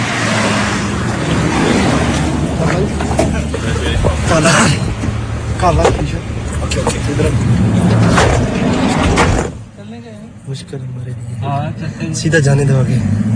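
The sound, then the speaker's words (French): Steady low engine rumble and road noise fill a moving car's cabin while several people talk over it; the drone briefly dips quieter near the end before swelling back. “Alors, on se méfie de nous, on veut pas trop nous parler, il y a des surveillants qui sont pas loin, mais il y a quand même deux travailleurs qui sont là, qui nous font signe, qui veulent nous parler, et on grimpe dans la voiture.”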